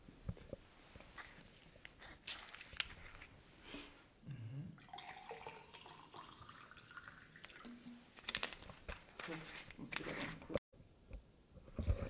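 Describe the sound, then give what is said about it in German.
Sparkling water pours into a glass, a gurgling stream whose pitch rises as the glass fills, followed by light fizzing and clinks, with faint background voices and movement. “Ich habe das Wasser vorbereitet. Fein. Möchtest du? Bring ich mir mal, ja, bitte gerne. Mit Kohlensäure, ohne? Mit, bitte.”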